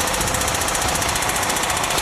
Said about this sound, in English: At this early stage, they're going to use a rivet buster to force the pins out of the track. Yeah, now it's going to get noisy.